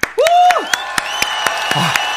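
An audience claps in steady unison, about four sharp claps per second, while a swooping whistle and sustained tonal voices ring underneath.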